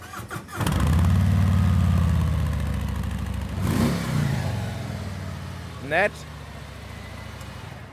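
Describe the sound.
A Harley-Davidson motorcycle engine cranks to life, then settles into a deep, loud, loping rumble with a brief rev partway through; a voice speaks briefly toward the end.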